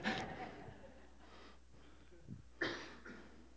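Someone imitates heavy, labored breathing after lifting weights: a loud huff at the start, softer panting breaths, then another strong gasping exhale, with no words spoken.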